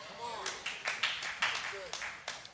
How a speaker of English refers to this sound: And yeah, you can clap at that, but walking this out is different.